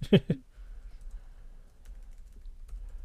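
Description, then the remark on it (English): A couple of sharp keystrokes at the start, then a few faint, scattered key clicks over a low background hum, like someone typing slowly on a computer keyboard during a live radio broadcast. “Okay, I'm fucking typing here.”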